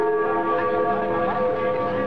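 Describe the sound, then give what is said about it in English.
Berlin's Freedom Bell rings out over the newly opened border with sustained, overlapping metallic overtones, loud and continuous, its resonance hanging in the air over faint background noise. “Berlin's famous Freedom Bell rang out over the newly opened border.”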